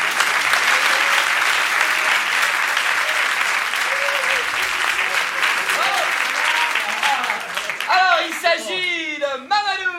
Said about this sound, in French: Oui monsieur, approchez-vous, on vous applaudit très fort.